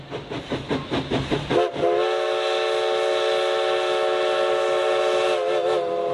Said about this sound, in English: The Oregon Coast Scenic Railroad is your opportunity to ride behind the living history of a historic locomotive engine along the beautiful Oregon coast.